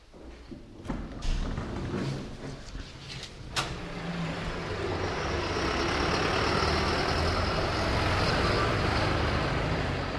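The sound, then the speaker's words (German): Two farm tractors driven by farmers rumble past in front of a village bank in Weiningen, their heavy diesel engines swelling from a few early clunks and thuds into a loud, steady drone that fills the rest of the scene. “Ja, und wie wenn sie in einem Drehbuch gestanden wäre, sind vor der Bank in dem Moment gerade zwei Bauern mit ihren Traktoren vorbeigeholt.”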